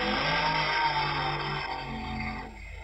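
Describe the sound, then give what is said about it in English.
The engine of Panic, a 427 cubic inch Chevrolet-powered Model T race car driven by Clyde Page, revs loudly and steadily, its deep roaring harmonics rising and falling slightly, with no one talking over it. “Chevrolet-powered Model T, and in the right-hand lane, this car world-famous, the Stripteaser minivan competition auto”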